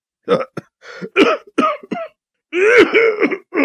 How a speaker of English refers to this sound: He punctuates his excitement with a racking cough.